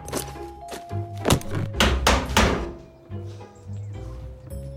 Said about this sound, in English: his dad, who's fixing the front door with a hammer.